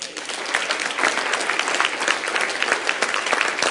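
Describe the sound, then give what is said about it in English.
A crowd applauds steadily for a woman joining the Phenomenal Products team, a dense wash of many hands clapping at an even, sustained loudness for several seconds with no voices over it. “Give her a big hand clap.”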